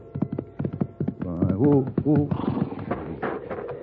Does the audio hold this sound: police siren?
no